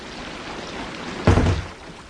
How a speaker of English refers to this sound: we can't stand out here. The rain's pouring off your roof. It's like standing under a waterfall.